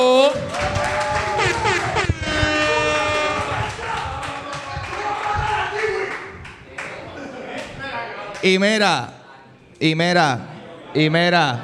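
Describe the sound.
A burst of applause and clapping mixed with voices and excited whoops, followed by several loud rising-and-falling shouts toward the end.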